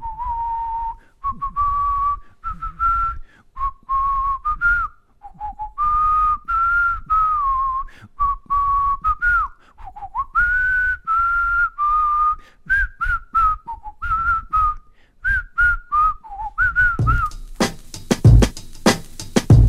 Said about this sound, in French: Papa, qu'est-ce que tu nous siffles?